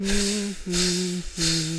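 Air hissing out of a punctured inflatable floating fish at sea in three steady bursts of about half a second each, a bright hiss over a low, buzzy squeal, with no voices.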